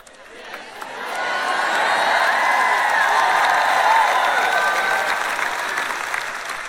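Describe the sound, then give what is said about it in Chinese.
An audience bursts into applause on hearing that Jesus will come again, a dense wash of many hands clapping that swells within the first second and holds steady and loud, with a few faint cheers mixed in. “一听到耶稣再来，你们都高兴地拍手。”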